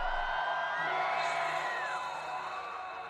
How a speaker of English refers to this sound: Everybody scream!